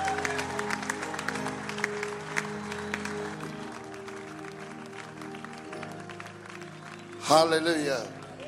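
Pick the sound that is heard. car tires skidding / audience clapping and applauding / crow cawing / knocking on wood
audience clapping and applauding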